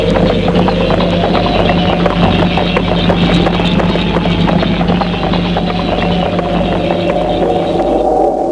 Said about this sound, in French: Il monte sur son cheval. Et il s'éloigne. Dans le vent.